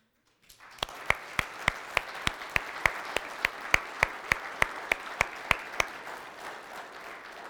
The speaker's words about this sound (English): And so just as a time, before we really get into the text, would anybody who has served in any branch of the military please stand? I'd love to give you a round of applause.